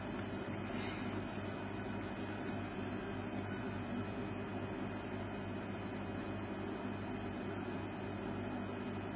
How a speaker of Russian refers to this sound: Так, а теперь выключим ум. В смысле кондиционер.